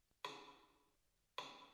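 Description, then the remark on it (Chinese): Two crisp ticks of a metronome standing on a piano, about a second apart, each a bright click with a short ringing tail, with no voices. “滴答滴答，听着节拍器的声音，你的心情更加沉静了。”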